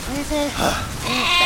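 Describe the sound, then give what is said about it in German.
Several short sheep bleats in a video game, wavering and nasal, in quick succession with brief gaps, as the sheep are herded into a dry barn while it starts to rain, over a steady background hiss of rain. “Los, wir bringen die Schafe jetzt rein.”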